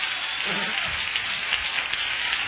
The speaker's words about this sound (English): That's pitiful clapping. Do it again.